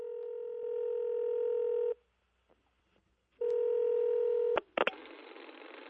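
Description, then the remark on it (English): Telephone keypad tones: two long, steady electronic beeps separated by a short silence, followed by a couple of sharp clicks and a rush of static hiss. Fairly loud, with no talking. “It sounds like there might be a phone call in the offing.”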